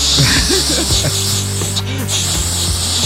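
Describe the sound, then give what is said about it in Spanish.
A person imitates a spray can with their voice, a calming spray used to relax a dog, making a steady, loud hiss that lasts about three seconds, with a faint low vocal hum underneath. “Me dijeron que le comprara el spray para relajarla.”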